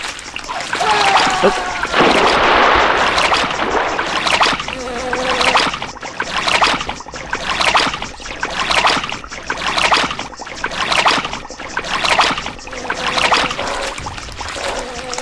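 Loud, steady rushing water of an approaching waterfall in a video game fills the scene, broken by a regular rhythm of paddle strokes splashing roughly once a second, with a faint voice now and then underneath.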